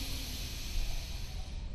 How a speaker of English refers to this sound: Watch me first, then you'll do it by closing one nostril and breathing in. And retaining, counting at 10. Switching and letting it out. and counting to 10 on the upper. Breathing in,